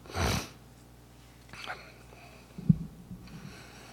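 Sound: sniffing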